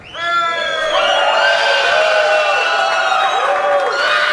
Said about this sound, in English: All right. Applause meter. Okay, I got it. I'm going to screenshot all three so we can compare the level.